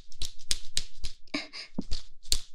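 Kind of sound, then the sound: impact, whip strike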